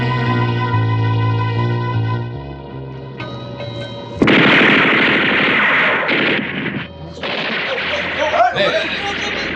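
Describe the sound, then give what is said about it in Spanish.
Rapid bursts of machine-gun fire at a drifting boat, the bullets raising small spurts of water around it, break out after a few seconds of tonal, sustained music, continuing loud and dense with sharp cracks and brief pauses until the end. “Calimán y su infantil compañero desaparecen de la barca y esta queda a la deriva, envuelta en pequeños borbotones de agua que brotan con el impacto de las balas.”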